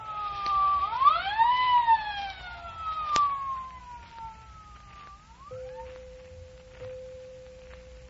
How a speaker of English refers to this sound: The siren came, and the ambulance appeared